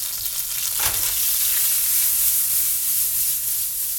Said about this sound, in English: cuts up his garlic and throws it in the pan to fry.